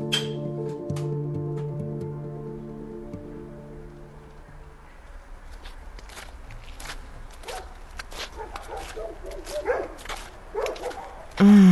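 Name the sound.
dog barking and whimpering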